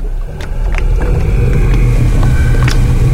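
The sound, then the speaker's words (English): A boat without oars moves across water with a steady low rumble, broken by a few sharp knocks and splashes. The sound stays loud and continuous, with no voices. “I'm going for a boat.”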